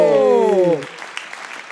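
A loud, falling pitched tone cuts off after a moment, leaving a quieter wash of audience applause for a prize winner being called onto the stage, with scattered individual claps standing out.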